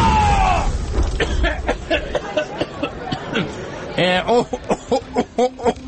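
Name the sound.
explosion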